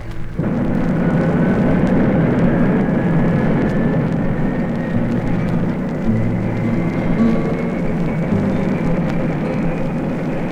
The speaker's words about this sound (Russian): А ракета пошла по рельсам.